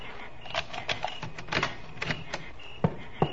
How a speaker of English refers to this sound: The keys there, too? No, in my trousers. Reach in. Get them out. But be careful. Now, unlock the station door and go in ahead of me.